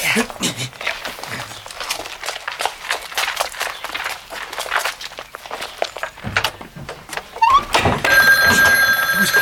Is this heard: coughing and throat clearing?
no